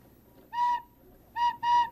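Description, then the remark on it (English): A wooden bird whistle is blown in three clear, steady tones: one longer note, a pause, then two quick notes close together, bright and fairly loud with no talking. “This is a wooden whistle. Why, it looks like a bird.”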